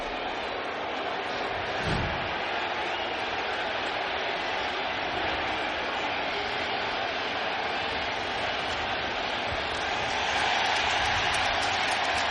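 A baseball stadium crowd roars after Borges's home run to left field off Severino in the top of the fifth, which gives the Rays a 2-1 lead, as a fan throws the ball back onto the field. The cheering is a dense, unbroken wash that holds steady for several seconds and swells slightly louder toward the end, with no distinct voices on top.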